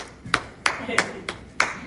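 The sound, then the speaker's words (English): Five sharp hand claps in a slow, steady rhythm during a sermon, each a bright crisp smack, with a low murmur of voices running underneath. “I want to clap.”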